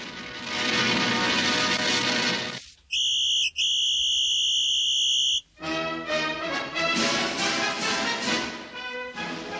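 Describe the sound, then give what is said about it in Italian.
Two short, bright whistled tones with a brief gap between them, clipped and regular like Morse code signals meaning "no", standing alone between louder stretches of music. “Era in alfabeto Morse per caso, due sigle, che due no. Fischi, che vuol dire no”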